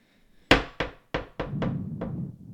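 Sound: hammer knocking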